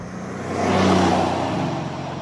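A Mercedes-Benz G-Class 4x4² engine revs, its deep growl swelling loudly for a moment and then holding at a steady, rumbling drone. No one speaks.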